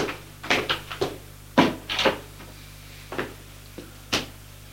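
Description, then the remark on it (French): Sharp knocks by a woman on an office door, coming in an uneven scatter of single raps and short pairs, over a steady low hum with no voices. “La femme frappe à une porte. Une porte de bureau.”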